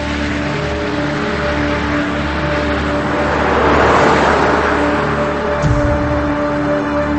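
An SUV drives along, following another car around a corner, with a steady engine drone and broad road noise, swelling briefly louder midway, then settling back. No one speaks.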